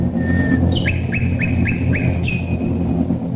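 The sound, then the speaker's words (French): A nightingale sings in a garden in Surrey, England: a long thin whistle, then a quick series of five rising chirping notes and a final high whistle, heard over a steady low rumbling background. “Mais L'envoûtement des Britanniques de pouvoir entendre une fois par semaine les rossignols d'un jardin du Surrey chanté en direct fut tel que l'émission se poursuivit sans la violoncelliste, avec les seuls rossignols.”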